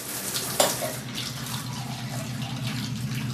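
Water runs steadily from a shower in a shower block, a continuous rushing hiss with one brief sharp splash or knock early on, with no voices.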